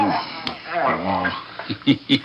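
A dog whines and grumbles for a moment, then lets out two short, sharp barks in quick succession.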